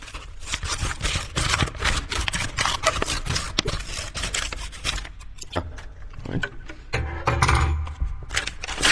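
Busy paper crinkling and tearing as someone struggles to open a paper envelope, a steady run of crisp rustles and scrapes with a few louder rips toward the end.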